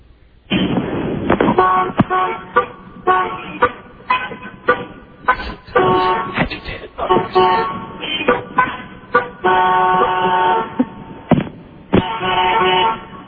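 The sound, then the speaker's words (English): Car horns blare over and over, short toots mixed with longer sustained blasts, overlapping in an insistent, irregular chorus of honking from several vehicles as motorists honk at a traffic light that has turned green, about 23 honks in 30 seconds. “I counted a clear 23 honks.”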